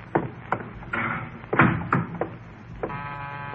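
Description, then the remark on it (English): A series of sharp, fairly loud knocks on a door, irregular and spaced out, followed at the end by a steady buzzing tone like a doorbell or buzzer. “Who can that be at the door?”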